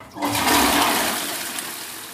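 A toilet flushes with a sudden loud rush of water that churns steadily, then slowly tapers off into a softer swirling hiss. No one speaks over it.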